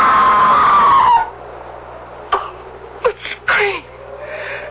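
A long, wavering scream rings out at Bodmore Manor and trails downward before fading. A low hum and a few faint knocks and scrapes remain afterward.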